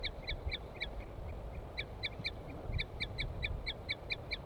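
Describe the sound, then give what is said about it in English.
A female bird gives a tooting call: short, high, clear toots repeated in quick, even bursts, with a brief pause before a longer run, over a low rumbling background. “And L5 is giving a weird call. Or song or something. Female tooping.”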